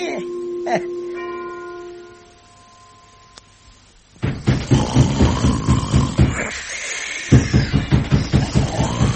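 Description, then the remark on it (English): A bell, rung by pulling a bell pull, peals twice in quick succession, its bright resonant tone ringing out and slowly fading over a couple of seconds. After a short quiet pause, a man begins talking. “I have often heard tell that where there's a bell pull, well, there must be a bell.”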